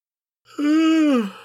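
two people yawning

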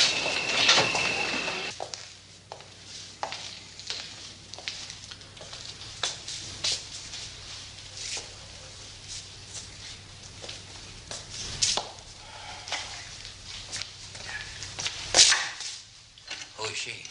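door being opened

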